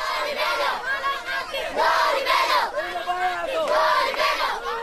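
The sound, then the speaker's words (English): A crowd of children in Mogadishu, Somalia, shouts anti-trader slogans in unison against vendors demanding payment in U.S. dollars, high-pitched voices rising and falling in loud, rhythmic chanted bursts roughly every second, continuous and without pause. “Well, the kids were shouting anti-traders slogans such as down with the dollar receivers and down with the unscrupulous traders.”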